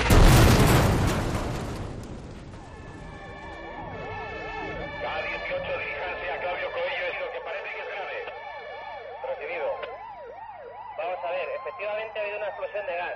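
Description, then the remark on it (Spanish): A huge gas explosion on calle Claudio Coello in Madrid erupts with a loud roaring blast that rumbles and fades over two seconds, followed by wailing emergency sirens rising and falling steadily. “La ciudad de Madrid iba despertando poco a poco cuando se escuchó una tremenda explosión en calle Claudio Coello.”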